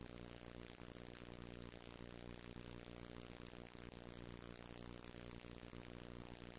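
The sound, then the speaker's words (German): A very modern model airplane's small petrol engine runs steadily and loudly, a constant buzzing drone with a strong harmonic hum that holds an even pitch throughout, with no voices. “Ich habe hier ein ganz modernes Flugzeug mit Benzinmotor.”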